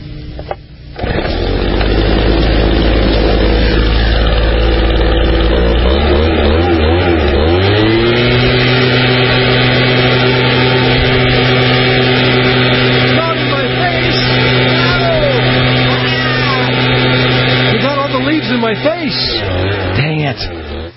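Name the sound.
leaf blower engine running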